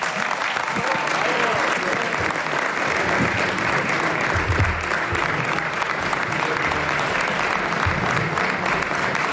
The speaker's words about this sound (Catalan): Aplaudiments a la sala amb aquest discurs de Joan Laporta i ara crits de president, president.